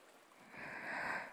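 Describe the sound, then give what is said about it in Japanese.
A soft, breathy wash of gentle ocean waves swells up and lingers briefly, quiet, with no voices. “波の音を聞きながら、私と二人で残りの人生を過ごすだけでいいんです。”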